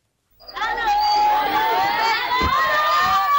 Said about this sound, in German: Man versteht sein eigenes Wort nicht und sieht nur blau. Hunderte von Kindern in blauen Schuluniformen rennen über den Platz, stürmen kreischend auf uns zu, die fremden Gäste.